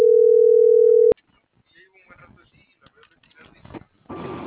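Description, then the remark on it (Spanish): A cell phone sounds one loud, steady electronic tone for about a second before it cuts off with a click, followed by faint, muffled voices and a short burst of hissy static. “Ah, el celular.”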